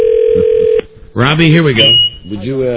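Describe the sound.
A steady telephone dial tone hums loudly for just under a second as a phone is picked up to place a call, then cuts off abruptly as a man starts talking.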